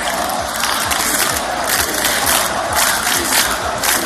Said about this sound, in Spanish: Calles repletas, multitud de pancartas y con gritos de unidad y en contra de Puigdemont.